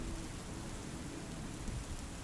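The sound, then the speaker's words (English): Steady rain falls on a warm summer night in a continuous, even hiss with a low rumbling undertone, quiet and unbroken throughout with no voices. “Your clothes are soaked through, but you embrace the rain, feeling every droplet,”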